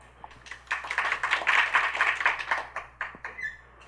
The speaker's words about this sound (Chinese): 掌声欢迎